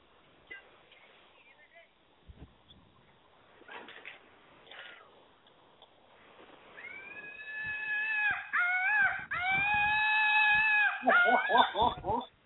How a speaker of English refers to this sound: So it's a monkey. It's a monkey, and it has an elastic, and he would shoot them into the crowd, and they scream.